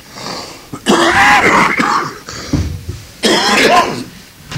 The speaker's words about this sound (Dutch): U vergeven mij, de hoestbui is van het medium, niet van mij.